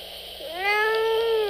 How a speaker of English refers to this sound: Meow. That's right.